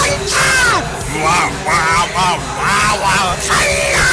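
Loud yelling in a rapid string of about half a dozen strained shouts, each rising and falling in pitch, with barely a pause between them.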